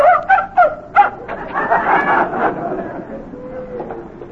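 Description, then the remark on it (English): A dog gives four quick, sharp barks in a row, followed by a longer, blurred stretch of softer sound that may be voices in the background. “Now, put the dog on.”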